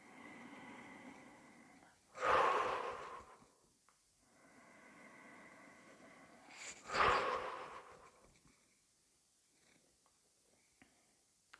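Two fluttering lip-trill exhales during a breathing exercise, each a buzzing burst after a quieter drawn-in breath, with the shoulders raised then relaxed, spaced a few seconds apart, with soft breathing in between and no talking.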